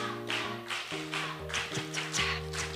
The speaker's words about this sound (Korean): 박수 3번 시작. 박수 5번 시작. 박수 6번 시작. 박수 박수 11번 시작.